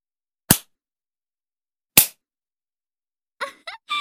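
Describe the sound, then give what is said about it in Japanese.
Two sharp, loud hand smacks on bare buttocks as a punishment spanking, with trousers and underpants pulled down, land about a second and a half apart, each a crisp crack, followed by a few brief, high vocal sounds. “ズボンとパンツペローンってめくって、お尻ペンペンしちゃうよ。”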